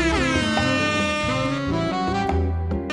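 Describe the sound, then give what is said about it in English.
A loud, blaring air horn tone holds steadily for about three seconds, thick with buzzy harmonics, while lower notes shift underneath in a musical, remixed way. No one speaks. “And heading into the break, you can enjoy this chillax version of the air horn.”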